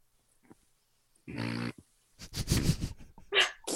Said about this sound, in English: Can I get a fart noise though, really quick before I go?